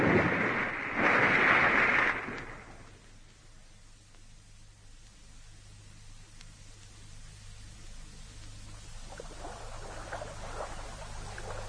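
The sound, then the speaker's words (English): A loud, rushing splash of a car going over the bank and nosediving into a river, its bonnet wedging into the mud, lasts about two seconds, then fades to a steady low rumble and faint watery hiss. “The car nosedived into the river.”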